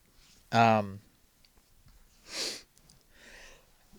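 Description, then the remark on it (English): A sneeze: a loud, sharp voiced burst, then a shorter hissing burst of breath about two seconds later, trailing off into a faint, soft exhale. “Bless you.”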